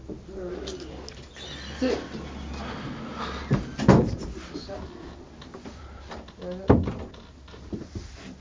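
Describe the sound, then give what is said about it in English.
Several short wooden knocks and clunks of a cupboard door being opened and shut while someone looks in the cupboard for cough medicine, with a louder bang near the end, over a low background hum and faint room noise. “No, maybe some in the cupboard.”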